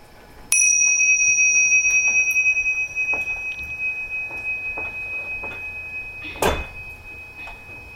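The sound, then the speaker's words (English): A single bright meditation bell is struck once during a meditation class and its clear, pure tone rings on, slowly fading over several seconds amid faint background noises and a brief soft knock. “So keep trying to follow the vibration of the bell and differentiate it from all the sound outside in the room and in the hallway behind us.”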